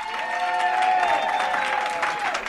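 Steady audience applause at the Johannesburg edition of Nedbank Business Ignite, a live event of The Money Show with Bruce Whitfield: a dense wash of many hands clapping at an even loudness throughout, with a few held tones humming faintly underneath and no talking.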